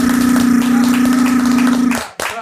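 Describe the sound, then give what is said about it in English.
A dense patter of clapping for the announcement of a new show rides over a steady low humming drone for about two seconds, then cuts off abruptly, followed by a single sharp burst. “Clap it up for that.”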